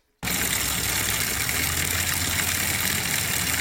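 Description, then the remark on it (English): A steady, unbroken roar of highway traffic begins abruptly and holds at an even level, a broad hiss layered over a low engine rumble, with no voices, heard at a big chicken coop. “so please don't mind too much the highway noise, hopefully.”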